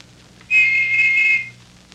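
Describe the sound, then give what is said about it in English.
A single sustained, high-pitched whistle lasting about a second, steady and clear with a faint low hum beneath, heard alone without any talking. “Spencer mentioned Linda May in the river and listened for another whistle.”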